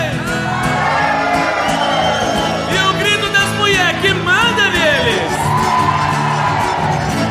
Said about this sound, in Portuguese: Mas sanfoneiro, eu quero ver o grito apaixonado dos homens.